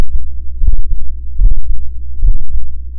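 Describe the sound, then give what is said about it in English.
Three muffled, low thumping heartbeats at a steady, slowish pace over a constant low rumble, the wearer's heartbeat picked up by a vest woven with acoustic fiber that works as a fabric microphone. “In another experiment, they also wove the acoustic fiber into a vest that could pick up the wearer's heartbeat.”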